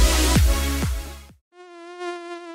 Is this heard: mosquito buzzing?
yes